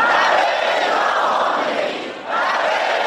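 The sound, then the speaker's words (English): A large crowd in central Tehran, Iran, chants loudly and continuously in unison, many voices blending into a dense roar with a brief dip before the chant swells again. Many hold pictures of President Ebrahim Raisi and chant support for supreme leader Ayatollah Khamenei after the president's death in a helicopter crash. “And sounds from central Tehran as crowds of people, many holding pictures of President Ebrahim Raisi, chanting their support for Iran's supreme leader Ayatollah Khamenei after the death of the president in a helicopter crash.”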